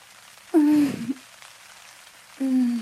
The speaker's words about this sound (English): I want you to make love to me until the rain ends.